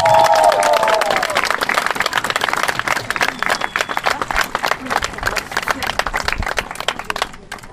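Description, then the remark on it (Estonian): A large crowd bursts into sustained applause for the men, dense and loud, with cheers and whoops rising at the start before the clapping carries on steadily and gradually thins toward the end. “Teeme veel meestele suure aplausi!”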